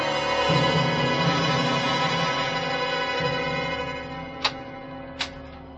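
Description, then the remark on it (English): A steady, droning mechanical hum fills the scene, fading slightly before two sharp, distinct ticks sound about a second apart near the end, as a clock starts again with its second hand moving. No one speaks. “It started again, see? What? The second hand's moving.”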